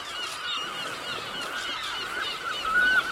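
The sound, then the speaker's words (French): A dense colony of seabirds on the Île du Mai calling all at once, harsh overlapping honking cries forming a continuous, busy chorus, with no one speaking. “C'est mon île, effectivement, et depuis près de 30 ans, puisque chaque année, nous y vaguons les oiseaux d'abord, et ensuite, nous comptons les nids.”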